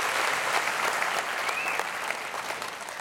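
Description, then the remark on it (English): A crowd breaks into sustained applause to welcome Westwood Minnetonka, who are watching through the live stream: a dense wash of clapping with a brief whoop or cheer rising over it, steady and fairly loud for the whole stretch. “Let's give them a little bit of cheer.”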